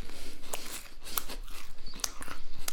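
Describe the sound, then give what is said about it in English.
Someone bites and chews a crisp Marmite-coated rice cake, producing a steady run of dry, crackly crunches roughly every quarter second, fairly loud, with sharper snaps on the harder bites and no talking. “It's not easy to eat it in a hurry.”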